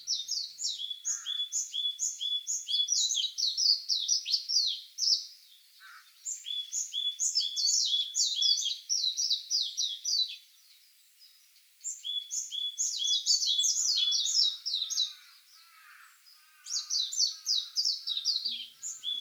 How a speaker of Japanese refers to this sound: 身近な鳥のメジロの長期間のさえずりもその一つです。